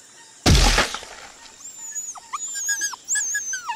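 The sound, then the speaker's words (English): A sudden loud crash of snapping branches as a pit cover gives way, then a dog that has fallen into a Burmese tiger pit yelps in pain, a run of sharp, high, wavering cries that continue after the impact. “Your Burmese tiger pit has claimed one of my best dogs.”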